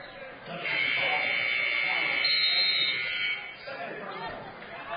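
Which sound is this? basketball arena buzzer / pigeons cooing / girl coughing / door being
basketball arena buzzer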